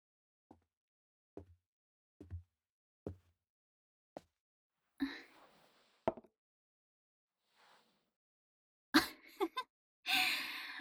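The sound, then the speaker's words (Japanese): A big, breathy yawn follows a handful of soft, evenly spaced taps, with a few more airy exhalations and rustles near the end. Fairly quiet, with no talking. “大きなあくびですね。”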